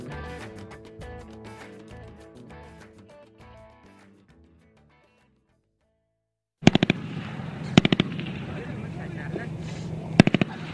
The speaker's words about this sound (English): Gunfire there last week in southern Afghanistan. You can hear maybe the breathing there of Canadian troops taking it and returning it.